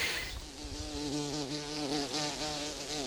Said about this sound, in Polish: Mamy tutaj trzmiela. Jest. To brzęczenie jest niższe, takie spokojniejsze niż u pszczoły, która szalenie szybko macha tymi skrzydełkami. Trzmiel wolniej.